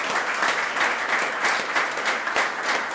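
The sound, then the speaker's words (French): Steady, dense applause from an audience for the speakers of a discussion, a continuous crackle of many hands clapping at even loudness throughout, with no voices standing out. “Ok, je pense qu'on peut applaudir nos intervenants.”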